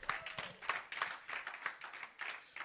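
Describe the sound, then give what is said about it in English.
An audience claps for the Lord Jesus together in a steady, even rhythm, about three claps a second, sharp and moderately loud, with no voices over it. “Clap for the Lord Jesus.”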